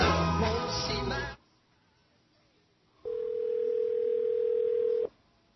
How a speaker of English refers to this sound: We've got the phone ringing now for our guest. We hope she's there.